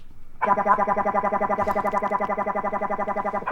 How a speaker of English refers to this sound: he's circuit bent a kid's toy, a baby Einstein piano